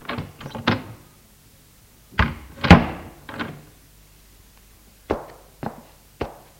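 A quick series of knocks on the door of a father's bedroom, then a heavy thunk and clatter as the door opens, followed by a few spaced footsteps as a man enters after a voice tells him to come in.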